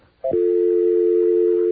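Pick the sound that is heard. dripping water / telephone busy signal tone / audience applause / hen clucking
telephone busy signal tone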